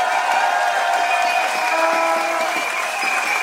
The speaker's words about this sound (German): Während wir hier stehen und klatschen, versuchen schon wieder viele Menschen in die Tagebauer, auf die Bagger und auf die Gleise zu kommen.